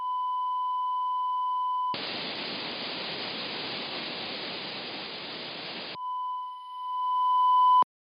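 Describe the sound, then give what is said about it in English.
Modem-like electronic signalling from an underwater acoustic release, talked to from the surface via an acoustic link: a steady high beep, then about four seconds of loud hissing static, then the beeping returns with a slight warble before cutting off abruptly. No voices. “You know, if you think of old dial-up internet, it's that sort of beep, buzz, pop, whir noise, and it's quite long and it gets repeated twice.”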